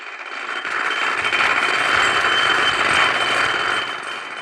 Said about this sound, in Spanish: Las dos mujeres callan, mientras el sonido insistente del taladro que sube desde la calle se hace más fuerte.